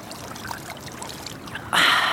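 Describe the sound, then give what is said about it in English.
Cold, fresh stream water trickles and dribbles for a moment as a person scoops up a big handful, then a sudden louder splashing pour bursts in near the end as the water spills back down into the stream. “Right, I'm going to take a big handful.”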